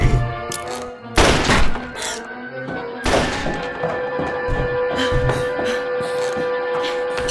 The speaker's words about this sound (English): Bunny, what was that noise? Were those gunshots?